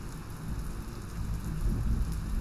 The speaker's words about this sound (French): Et tu entends cet orage ?